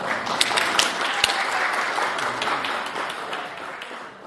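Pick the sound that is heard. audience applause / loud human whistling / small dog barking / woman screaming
audience applause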